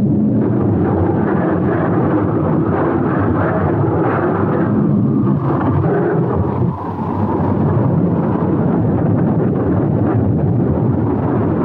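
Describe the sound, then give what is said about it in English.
A raging, frosty storm roars steadily, heavy wind and low rumbling thunder filling the whole stretch, loud, with a brief dip in the din partway through before the roar surges back. “Well, a frosty storm, it appears.”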